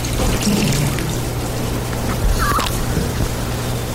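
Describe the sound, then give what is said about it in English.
Tap water pours steadily for a baptism, a continuous splashing trickle with a low hum underneath and a brief gurgle partway through, with no one talking. “And here we have regular old water.”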